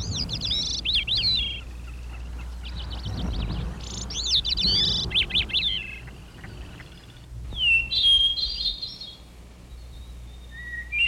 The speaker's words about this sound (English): The birds woke up as the sky changed from black to light, and a rooster crowed good morning.